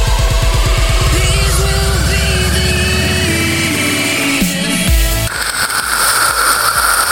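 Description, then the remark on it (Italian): Dry ice fizzing and bubbling in water, a loud churning hiss with a rough, rumbling sputter that swells into dense bubbling noise near the end. No one speaks. “Fa sempre quell'effetto macchinetta del caffè, ghiaccio secco.”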